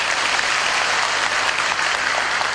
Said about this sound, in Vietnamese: quá giỏi, cho một tràng pháo tay.